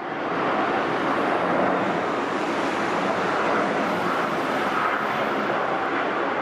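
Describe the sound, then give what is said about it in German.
A steady, loud airplane roar fills the whole stretch, a broad rushing drone that holds even without rising or fading, with no voices over it. “Flugzeuglärm am Ende eines Berichts von Andreas Zingel, der von Karin Lienordner präsentiert wurde.”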